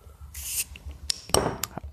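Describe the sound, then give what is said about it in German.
A bottle of Schneider Weisse hop wheat beer (Hopfenweisse) opens with a short hiss, then the beer glugs and fizzes into a glass, with a few sharp clinks, fairly quiet, no talking. “Ich habe ein bisschen Angst, dass es hier überläuft.”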